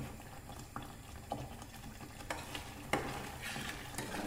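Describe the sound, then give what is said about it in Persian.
Mashed potatoes being stirred in a steel pan: a steady soft sizzle with a series of irregular scraping clinks, one sharper knock standing out near the end, and no voices. “فقط باید تو این در حقیقت مرحله هی اینا هم بزنید که ته نگیره، چون من کار ندارم استیل این خیلی زود ممکنه که ته بگیره.”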